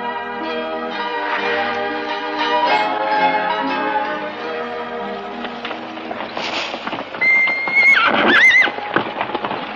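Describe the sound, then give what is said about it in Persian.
Horses bred on the property whinny with rising and falling cries over a steady clip-clop of hooves, the neighs growing louder and sharper toward the end, with a faint bell-like ring in the mix. “عجب اسبای خوشگلی اینجا پرورش دادیم پسر جون.”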